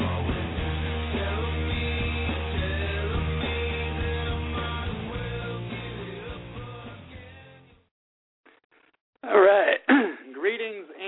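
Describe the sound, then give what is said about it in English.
Music plays and then cuts out. After a short silence, a few loud, harsh coughs and throat-clearing bursts follow, rough and uneven, with no music under them, as the host of the Eccentric Perspective on Freedomizer Radio coughs into the microphone. “Sorry for coughing in everybody's ear.”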